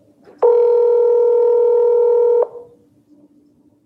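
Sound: phone call ringing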